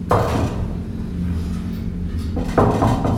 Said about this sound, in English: Upstairs, he goes up to Tony's front door and knocks.